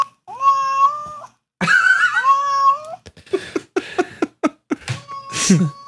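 Two long, drawn-out recorded cat meows played from a phone app, loud, one after the other, followed by a string of short, choppy vocal bursts and a brief rising tone.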